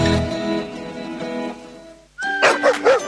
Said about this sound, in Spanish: Esos ladridos son los perritos de la Corporación Mirada Animal Chile, que están felices por el nuevo Centro de Control y Recuperación Canina.